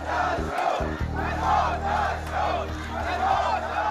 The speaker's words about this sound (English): A crowd of protesters in the Saudi Arabia village of Al Awamiya chanting, "Down with the Saud, death to the Saud," after the beheading of the prominent Shiite cleric Nimr al-Nimra.